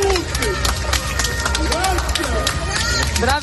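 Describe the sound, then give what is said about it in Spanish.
A loud, dense crowd in Italy applauds the carabinieri who took part in the arrest of Cosa Nostra boss Matteo Messina, sharp claps rattling steadily throughout while many voices shout and cheer over the clapping. “Bueno, esto que escuchas son los aplausos de la gente a los carabinieri que han participado en su detención.”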